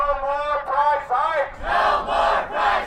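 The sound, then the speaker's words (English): A crowd of protesters marching to a public hearing in downtown Milwaukee over utility energy bill increases chants in unison, loud rhythmic shouted phrases rising and falling in steady bursts, with several voices blending into one raised, pitched chant. “Protesters marched to the public hearing in downtown Milwaukee.”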